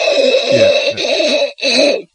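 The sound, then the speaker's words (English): A loud snoring noise from the snoring scene of a Steve Martin film, with a strange buzzy, droning tone, like an electric clipper, running for about a second and a half, breaking briefly, then returning for a shorter burst. No one speaks. “So I'll play that right now. Just weird snoring noise.”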